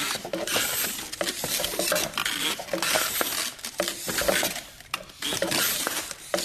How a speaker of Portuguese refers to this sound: Quando acionado, o aparelho rola e faz um barulho de pisadas.